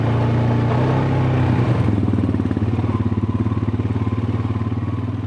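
A four-wheel all-terrain vehicle engine revs up as a passenger hops on behind, its pitch climbing and then settling into a steady, throbbing rumble with a rapid pulsing rhythm.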